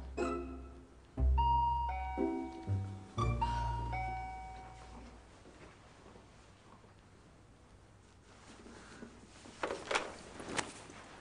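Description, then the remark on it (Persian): An apartment intercom door buzzer rings out in a few bright, tonal bursts over the first four seconds, then fades into quiet background noise with faint rustling and a couple of soft bumps near the end. “از تو بزرگتر نبود آیفون رو جواب بده؟”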